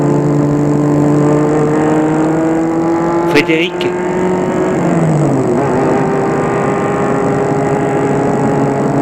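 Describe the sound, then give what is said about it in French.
A car engine roars as it accelerates hard on the Paris ring road, nearly empty apart from trucks, near daybreak. Its pitch climbs steadily, dips at a gear change midway, then rises again, with a brief voice over the din. “Il fonce de plus en plus vite”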